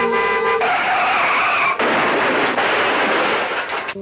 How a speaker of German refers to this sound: Das Auto bremst und man hört einen Unfall.